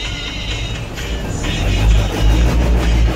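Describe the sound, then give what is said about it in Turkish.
Steady city traffic rumbles in Istanbul, with a deep engine drone swelling as vehicles move past and a broad hiss of road noise, no voices heard. “İstanbul trafiği çok sıkıntılı kardeşim.”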